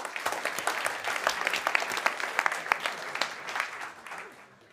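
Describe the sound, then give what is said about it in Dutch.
An audience applauds as journalist Koen van de Ven is introduced, a dense patter of many hands clapping steadily at a moderate level, then thinning and fading out toward the end. “Applaus voor Koen van de Ven.”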